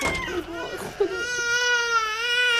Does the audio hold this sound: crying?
yes